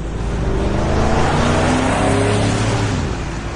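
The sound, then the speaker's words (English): A car engine revs steadily and loudly up close, its harmonic tones rising and falling with the throttle for several seconds, with no voices over it. “The revving of the engine means that our motoring correspondent, Chirida Siena of cars.co.za, is standing by to tackle your motoring questions.”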